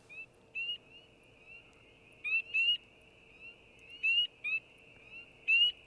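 A chorus of spring peeper frogs: shrill, rising peeps repeating in irregular bursts over a steady high-pitched background of many more peepers calling. No voices.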